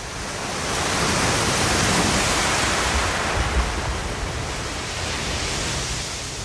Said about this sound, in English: And a couple of your submissions feature California, starting with the crashing waves at Point Lobos near Monterey Bay